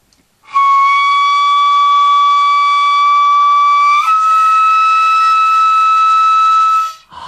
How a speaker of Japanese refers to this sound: はい、竜笛といって、いわゆるドラゴン、竜の笛、竜、まあ架空の動物ですけども、竜の声に、なぞらえて竜笛というふうに言っております。 横笛です。